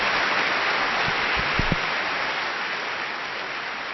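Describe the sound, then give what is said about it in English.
Steady, dense applause from a crowd fills the whole stretch, a continuous crackle of many hands clapping, with a few low thumps partway through and no voices. “The applause is well earned and well justified.”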